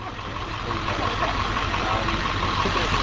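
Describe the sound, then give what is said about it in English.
A school bus full of volunteers from Illinois, arriving at a park, idles its engine: a steady low rumble with a constant throb that holds evenly for the whole few seconds under a broad wash of outdoor noise. “About the same time, a school bus full of volunteers from Illinois arrived at the park.”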